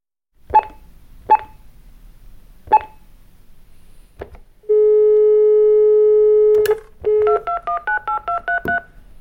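A rapid string of telephone keypad dialing tones: three clicky presses, then a long steady dial tone, followed by a quick run of about eight short two-pitch beeps, clear with no voices.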